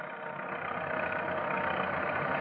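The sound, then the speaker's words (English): A car engine hums steadily as the car drives along a road to a camp, a continuous mid-pitched rumble that gradually grows a little louder over a few seconds, with no voices. “the breathless road foreman drives to the camp.”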